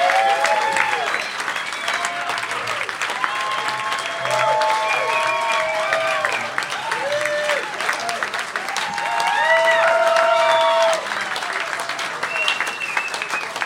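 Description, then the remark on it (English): An audience at the basement venue of the Des Moines Social Club gives a standing ovation, applauding loudly and steadily, with whoops and whistles rising over the dense clapping; the ovation swells partway through and keeps going without letting up. “An appreciative crowd at the basement venue of the Des Moines Social Club.”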